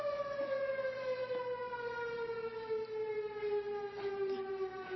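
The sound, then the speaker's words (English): A central fire siren being tested at noon wails continuously, one sustained, rich tone whose pitch slowly sinks as it winds back down, loud and steady with no voices over it. “I'm going to interrupt you for 1 second because we're going to test the fire siren while you're improving your presentation.”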